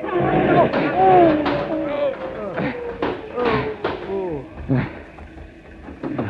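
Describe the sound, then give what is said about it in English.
A bus is deliberately yanked off the road into a ditch, lurching and crashing with a series of heavy thuds and bangs, loud, while agitated voices shout over the commotion. “I'm yanking the bus into this ditch.”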